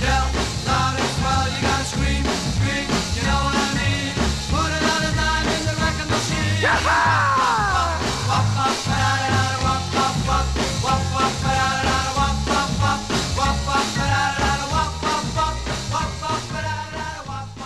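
A 1960s rock and roll song plays loudly and continuously, with a driving steady beat, full band backing and energetic shouted vocals throughout.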